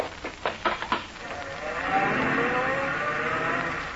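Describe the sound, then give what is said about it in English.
A car speeds off around a corner, taking it on a couple of wheels, a few sharp bursts giving way to a sustained, fairly loud engine roar and squealing tires that hold steady before easing slightly. “Car took the corner on a couple of wheels.”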